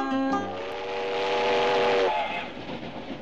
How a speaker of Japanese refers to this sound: 超特急つばめが東京大阪を走った昭和5年